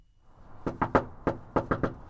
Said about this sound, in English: When Colin Allred goes door to door, he says he wants even his knocking to sound friendly because first impressions matter.